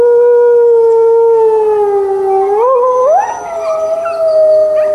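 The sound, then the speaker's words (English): A red wolf howls in one long, steady, mournful note that dips and then climbs in pitch. A second howl rises and overlaps it partway through, with no talking. “There are 6 new red wolf pups, 3 males and 3 females.”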